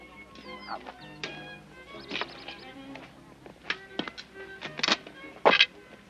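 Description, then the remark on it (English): A walking stick being waved around among guests at tables bangs against chair legs in a handful of sharp, irregular knocks, growing louder toward the end, set against a busy tonal background with faint voices. “He approaches the man, upsetting guests by waving the walking stick around and banging chair legs.”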